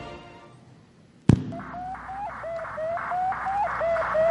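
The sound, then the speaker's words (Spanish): Radio signal of Sputnik, the Soviet Union's first satellite, an 80-kilogram sphere orbiting Earth. After a sharp click, a steady series of short, high electronic beeps repeats at an even, quick rhythm over a faint hiss, with no voices. “Este bip bip es lo único que hacía el primer satélite, el Sputnik.”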